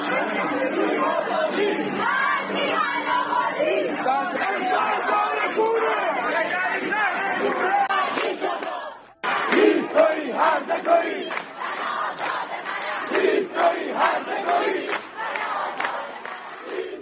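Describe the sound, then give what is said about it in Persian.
A large crowd of protesters gathered in Amol in memory of Ghazaleh Chalabi chants slogans against the government in unison, voices rising and falling in loud rhythmic waves, with a brief break near the middle before the chanting resumes with shouts. “آملی ها نیز به یاد غزاله چلابی گرد هم آمده بودند و علیه حاکمیت شعار میدادند.”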